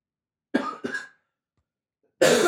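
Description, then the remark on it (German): Two quick coughs in a row, then a short silence before another harsh, louder cough bursts out right at the end. No one speaks. “Also ich werde bei meiner Spur einfach sehr viel Husten rausschneiden und hoffe, dass es dann irgendwie nachher sich anhören lässt.”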